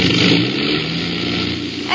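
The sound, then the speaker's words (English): A loud, steady drone from one of an aircraft's engines fills the whole stretch, with a rough, uneven sputter pulsing through its low end. “I heard it. One of the engines.”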